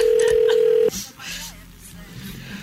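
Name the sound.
telephone ringing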